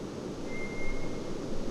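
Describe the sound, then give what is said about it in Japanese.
A lone, thin, drawn-out whistle of a White's thrush (tora-tsugumi, also called nue) sounds faint, holding one steady pitch for under a second above a constant wash of background noise. No one speaks. “まあ口笛にも聞こえるし、もうちょっとこうなんか裏話しいような声も聞こえますね。これがまあトラツグ、まあ ヌエという 声で、まあ春先の明け方によく鳴きます。”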